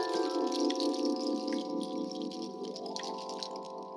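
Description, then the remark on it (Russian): Spring water pours steadily from a watering can onto a flower, a continuous splashing stream with a hollow, ringing tone that shifts slightly in pitch as it flows, with no voices. “разыскал лейку и полил цветок ключевой водой.”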